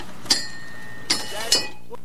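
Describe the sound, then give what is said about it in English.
A ship's quarterdeck bell from a battleship rings out in three sharp metallic strikes, irregularly spaced, each leaving a bright high-pitched tone that hangs and slowly fades before the next. “That is a bell, a quarterdeck bell, from a battleship.”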